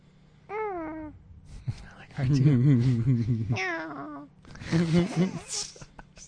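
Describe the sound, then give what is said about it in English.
A voice imitates a gremlin-like creature, likened to Mogwai from Gremlins and to the alien in Lilo and Stitch, with a few warbling, wobbly bursts of chatter and squeaky, gurgling babble, the pitch quavering up and down, with no real words. “No, you sound like a you sound like a gremlin.”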